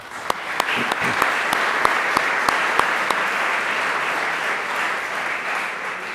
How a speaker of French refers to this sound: Et alors, je lui ai demandé bien gentiment s'il acceptait de venir ce soir pour donner cette conférence. Et il le fait, et il le fait gracieusement. Nous pouvons déjà l'applaudir et le remercier.